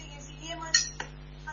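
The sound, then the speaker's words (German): Metal cutlery clinks and clatters faintly in the background, a couple of sharp clinks among quieter rattling, with a steady low hum underneath. “Und wird doch alle, irgendwer scheppert da mit Besteck im Hintergrund.”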